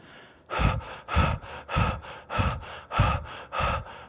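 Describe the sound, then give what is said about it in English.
A voice imitates the labored gasping of a woman who had pulled down her mask, drawing about six heavy, harsh breaths in a steady rhythm roughly every half second, fairly loud with no talking. “In fact, let me show you how her breathing was.”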